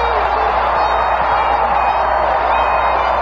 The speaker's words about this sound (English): A grand slam for Masters! This crowd is berserk!